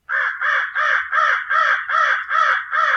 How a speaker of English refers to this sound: Commonly heard are the crow